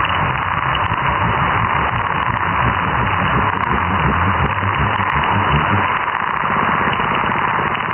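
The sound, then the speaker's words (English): A dense, continuous underwater chorus of calling fish as it goes dark, so many overlapping low grunts and pulses that it blurs into a steady hiss-like wash almost like white noise, with no single call standing out. “There's so much noise, and it almost becomes white noise. You can't actually see the individual calls at that point.”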